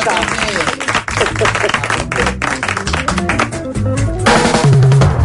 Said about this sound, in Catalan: Un aplaudiment per a una grangera moderna, La Closca.